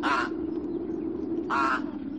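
A raven caws twice, two harsh, rasping calls about a second and a half apart, over a steady low background hum.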